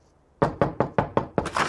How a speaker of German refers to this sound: Wir sind da. Pass auf, ich klopfe.